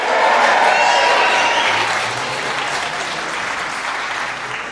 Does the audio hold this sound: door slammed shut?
no